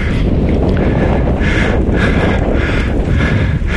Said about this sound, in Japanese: 淀川の河口です。もう風は完全に海風、そして潮の香りがはっきりと感じられます。